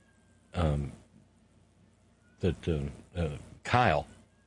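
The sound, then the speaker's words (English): A cat meows up close, one drawn-out meow followed after a pause by a quick run of four more, each with a sliding, wavering pitch. “That I'm not sure if that was him or Caesar Sox or Lucy Purr that was just yowling at us.”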